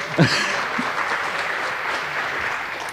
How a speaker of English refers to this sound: And please give a warm round of applause to our herald here, who pronounced my name correctly, which never happens.